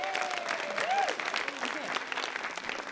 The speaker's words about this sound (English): Clap it up if you have seen this movie before.